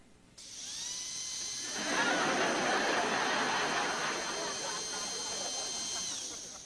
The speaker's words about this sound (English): Would it be the drill? Yes, that's the drill.